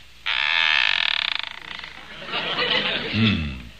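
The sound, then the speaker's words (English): A gate at an old real estate office swings open with a loud, drawn-out creaking squeal lasting over a second, followed by fainter rattling and a brief low vocal sound near the end. “I ain't heard nothing squeak like that since they was putting Grandpa in the box.”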